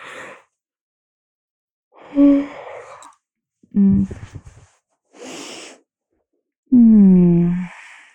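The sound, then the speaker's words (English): Several drawn-out yawns, each a breathy inhale sliding into a voiced, groaning exhale, separated by short silences, with the last one the longest and loudest. “I think I'm slowly getting to the point where I don't want to talk anymore. Because I keep yawning.”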